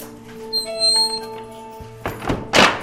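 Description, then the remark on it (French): A door in a château swings and shuts with a heavy thunk as people pass through, followed by a second broad thud, preceded by a faint creaky scrape over a steady low hum; no one speaks. “Alors, on passe une autre porte, bien sûr.”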